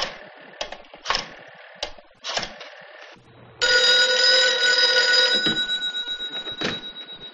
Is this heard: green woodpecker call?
no